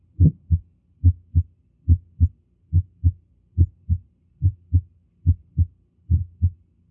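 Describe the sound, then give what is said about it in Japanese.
Heart sounds with an aortic ejection click, as heard through a stethoscope placed at the second intercostal space on the left sternal border: eight steady paired beats, each a dull low-pitched thud followed by a second one, repeating evenly with no voices. “そして、これは大動脈物質性のクリック音です。”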